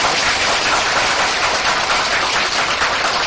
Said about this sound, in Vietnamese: Và hôm nay là lần đầu tiên thầy Pháp Hòa giảng ở tiểu bang này, Phật tử cho một tràng vỗ tay thật lớn.